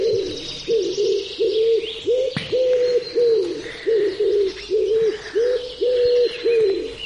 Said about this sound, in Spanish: Sí, sí. Al gorjeo de las palomas.